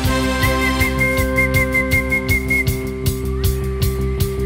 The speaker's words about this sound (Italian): È anche facile da fischiettare.